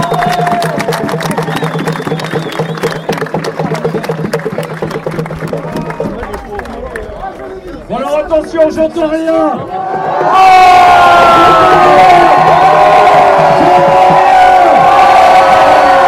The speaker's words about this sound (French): Finaliste de la Ligue Île-de-France de rugby, promotion honneur, le rugby célois chenésien. Autant, allez, on l'applaudit, s'il vous plaît, on l'applaudit, bravo.